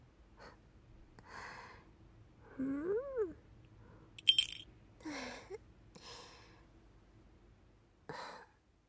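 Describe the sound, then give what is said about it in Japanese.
A cat named Nekotaro meows repeatedly, with rising and falling calls spread across several seconds, mixed with short breathy snorts and sniffs over a low background hum. “猫太郎、どうしたの？暇になっちゃった？”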